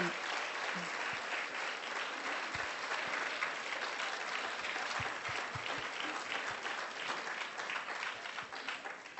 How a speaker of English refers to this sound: A zatleskáme jim. And we will applaud. Jako dík.